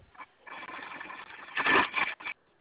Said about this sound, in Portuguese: Voltei já para minha máquina de costura aqui.